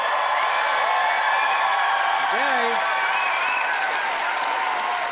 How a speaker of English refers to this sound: Robbie Hoffman wants to keep the brand names going, and it's time for this Vancouver audience to vote by applause.